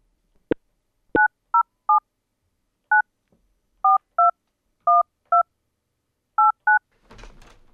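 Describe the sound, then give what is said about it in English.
Two sharp clicks, then a quick sequence of about a dozen electronic telephone keypad tones, beeped one by one at an uneven pace, clear, ending in a brief burst of noisy static. “and up next is a phone call I recorded with the Little Store owners”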